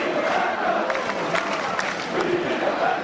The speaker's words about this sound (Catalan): Doncs la canalla que queda a espatlles d'alguns dels membres dels verds i comencen els càntics. Els crits de Vilafranca, Vilafranca, pungen l'aire, aplaudiments i continuen.